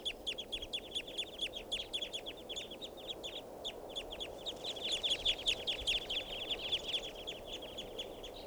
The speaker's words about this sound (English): And I see a flock in the tree right above me here. So, it's recording some wild birds. Flock is calling now.